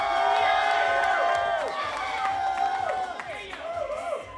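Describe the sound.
A large crowd cheers loudly and continuously to break a tie for first place, with many overlapping voices and high, swooping whoops rising and falling throughout, a dense roar of excitement.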